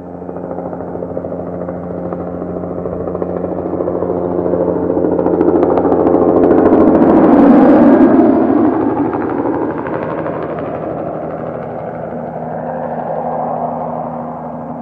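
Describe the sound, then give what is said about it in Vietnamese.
A helicopter approaches and passes overhead, its thudding rotor and engine drone swelling to a loud peak midway, then receding while staying audible, with no voices. “Tiếng trực thăng bay ào ào làm mọi người tỉnh giấc.”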